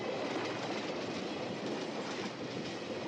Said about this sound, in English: Now, the train passes.